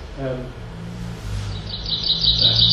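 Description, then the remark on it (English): A chaffinch's bright, rapid song of high repeated notes rises above a low, steady background rumble in the second half, fairly clear and moderately loud. “Chaffinch, but the chaffinch song is a bit like the willow warbler again. It kind of descends, but it's a lot fuller.”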